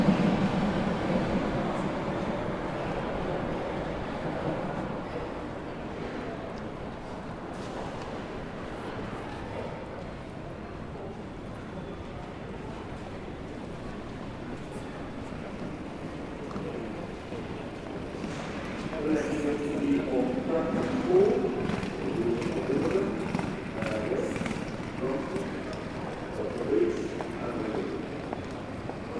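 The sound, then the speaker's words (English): Echoing London Underground platform ambience with a steady murmur of indistinct voices and low rumble, swelling louder and busier in the second half as an Edgware Road service train draws in to platform 2. “Edgware Road service now approaching platform 2 via High Street, Kensington, Notting Hill Gate, Bayswater, Paddington and Edgware Road.”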